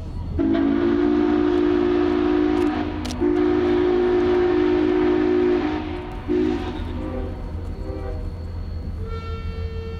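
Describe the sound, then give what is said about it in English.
A steam locomotive sounds its whistle in two long, loud blasts and a short third toot, over the steady low rumble and clatter of the train rolling along. “A steam locomotive produces its power at speed.”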